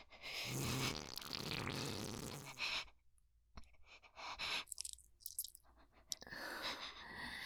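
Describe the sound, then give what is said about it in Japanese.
A long, loud, sputtering, very smelly fart rumbles for a few seconds, followed by a series of shorter squeaky and crackling bursts, then another drawn-out blast. There is no talking. “おなら本当に臭い。”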